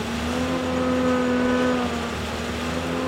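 A machine turns a truck full of crushed ice into snow in Hemming Park, Jacksonville, on a 55-degree day, giving off a loud, steady motor drone with a low humming pitch and a harsh, hissing wash of noise that runs unbroken throughout. No one speaks.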